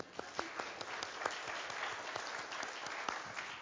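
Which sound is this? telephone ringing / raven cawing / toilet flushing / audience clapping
audience clapping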